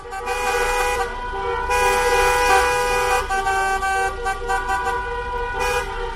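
car horns honking

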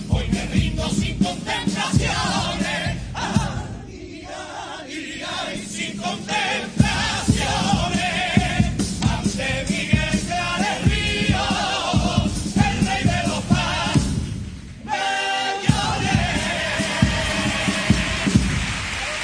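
audience ovation

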